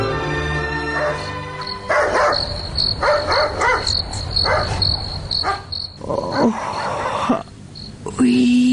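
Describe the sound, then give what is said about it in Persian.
A dog barks in short repeated bursts in the middle of the night against a steady, high chorus of chirping crickets, outdoors, with brief voices mixed in. “اینکه چرا در نصف شب سگ جف می زند و بعدن چی اتفاق می افتد، این را در درامه می شنویم”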